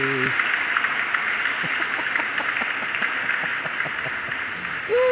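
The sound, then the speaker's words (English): A steady wash of dense applause welcoming a show's co-host, many hands clapping at once, holding an even loudness for about five seconds, with brief tonal voice-like sounds at the very start and end. “Look at that. Big applause.”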